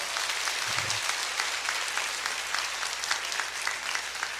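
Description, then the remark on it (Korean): A church audience claps steadily and continuously, a dense patter of many hands sustained throughout with no voices standing out, with a brief low thump early on, applauding to encourage the children of the education department who completed the special services. “다음 세대들을 위해서 다시 한번 큰 박수로 격려합니다.”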